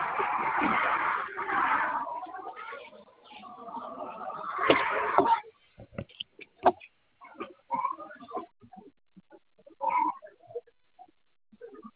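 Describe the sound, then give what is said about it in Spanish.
A car engine is being started, with a loud, rough mechanical churning for about five seconds that cuts off abruptly, followed by scattered clicks, knocks and brief faint voices. “¿me va a prender el carro o qué?”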